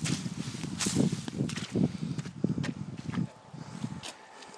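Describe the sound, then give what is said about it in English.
Footsteps squelch through wet mud on a hiking path up Snowdon, going round a section where the path is being rebuilt, in a steady walking rhythm, each step a soft, wet, thudding slosh, fairly loud and continuous for about three seconds before quieting to faint rustling. “And they're, you can hear me squelching.”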